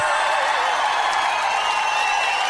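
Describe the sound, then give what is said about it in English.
A clapping sound effect: a burst of applause, many hands clapping in a dense, steady wash that stays loud and even for a couple of seconds, with no voices over it. “I'm pretty sure they deserve the Murphy's Law clap.”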